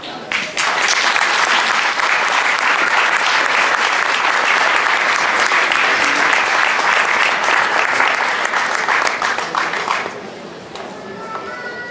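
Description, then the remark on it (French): A crowd claps loudly and steadily for about ten seconds, a dense patter of many hands applauding a representative of the firm Eurotrade who was invited onto the stage, before the applause quickly thins out and fades near the end. “On va encore l'applaudir.”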